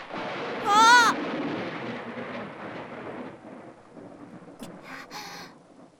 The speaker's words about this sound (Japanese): お兄さんは雷怖くねえの？